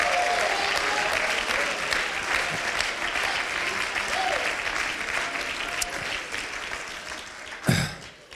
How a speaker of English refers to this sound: Matter of fact, I think we ought to give him a cheer right now. Woo!